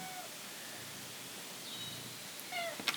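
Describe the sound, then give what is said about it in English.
A female cat gives a couple of faint, short meows, a thin high one and then a brief chirpy mew near the end, heard against steady background hiss with no one talking. “She's a very sweet-natured cat.”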